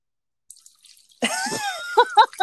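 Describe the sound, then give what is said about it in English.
Someone urinating: after about a second of faint rustling, a loud, steady liquid stream starts splashing into water, with a wavering gurgling pitch and a few stronger spurts toward the end. “So am I really gonna listen to you pee while I'm expressing myself?”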